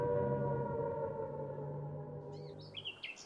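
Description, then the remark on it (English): A loud air raid siren in the old market town of Wicker Market, Suffolk, wails in a long, steady tone that slowly sinks in pitch, with a few bird chirps appearing near the end as it fades. “I'm Ruby and I used to live in Wicker Market in a house near the air raid siren.”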